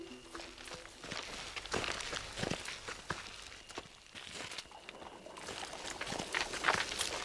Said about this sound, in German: Ich höre etwas. Ich glaube, der Pferdewagen kommt.